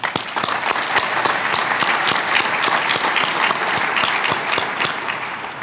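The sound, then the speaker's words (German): An audience at the Rainoldi-Mal event applauds steadily for several seconds to welcome a guest who travelled from New York, a dense wash of many hands clapping at an even, fairly loud level with no voices standing out. “die als weitgereister Gast sicherlich einen Applaus verdient hat.”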